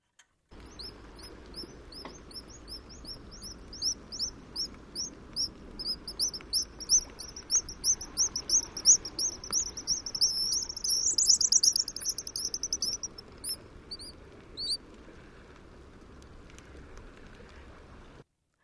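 A black guillemot, an all-black sea duck with white wing bars, gives a long, rapid series of thin, high-pitched squeaky calls, rising into twittering trills before trailing off, over a low background hush with no talking.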